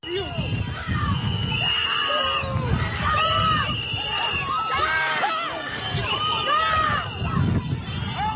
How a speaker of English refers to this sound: We saw observers shouting at the agents as they walked back to their vehicles.